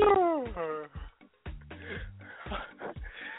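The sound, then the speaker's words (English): A person imitates a yawn, a drawn-out voiced sigh sliding downward in pitch for nearly a second, followed by brief vocal sounds and talk. “He tried to do the yawn and everything, like,”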